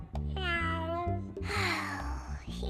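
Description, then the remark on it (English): A cartoonish voice, the cartoon character Gary performing a poetry act at a talent show, meows like a cat: several drawn-out, wavering meows in quick succession, loud with no other sounds around them. “Meow. Meow.”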